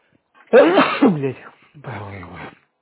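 A loud sneeze bursts out, followed a moment later by a second, softer sneeze-like exhale, with no talking around them.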